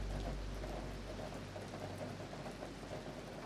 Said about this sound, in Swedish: Kan du höra hur regnet faller?